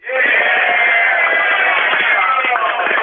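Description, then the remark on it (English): A tour group in the village of Rokito Prihomenom shouts together in a loud, sustained burst of overlapping voices, a dense roar of cheering and yelling that holds steady for about three seconds, answering whether they have had a good tour. “And I'm going to have everyone else sort of yell out, do you think if we had a good tour so far or what?”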